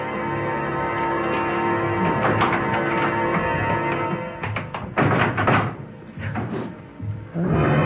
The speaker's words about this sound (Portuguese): Aquela porta à sua esquerda. Está aberta. Basta soltar o ferrolho e...